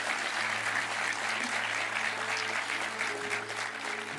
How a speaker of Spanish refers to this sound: Oye, qué lindo, le damos un aplauso a los que están por primera vez.